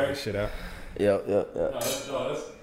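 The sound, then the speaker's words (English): Glasses clink together in a toast, a couple of bright, sharp chinks over the sound of people talking. “I mean, let's do a not, cheers. So it's less to edit out.”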